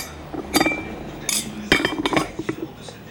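Dishes and cutlery clink and clatter as the table is cleared, a series of sharp, bright knocks and rattles in irregular bursts, with no talking.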